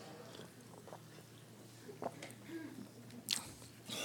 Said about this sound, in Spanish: Voy a tomar un sorbo de agua.